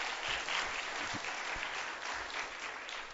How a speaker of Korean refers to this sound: 우리 박수 한번 쳐줄까요 오늘? 네.